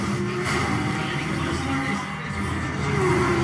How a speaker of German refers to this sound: Rom? Oder wo ist das? Ja. Zwei Autos in einem Rennen.